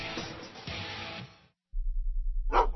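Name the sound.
dog barking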